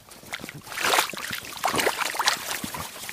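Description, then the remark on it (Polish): A rubber boot stirs and splashes through shallow pond water on an autumn day, with many leaves on the bottom, to show there is water, producing a few bursts of sloshing and gurgling with bright splashy hiss, rising and falling irregularly over a few seconds with no voices. “Zabełtałem tutaj kaloszem na dowód, że woda jest.”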